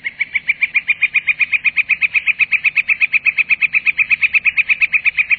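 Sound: northern flicker calling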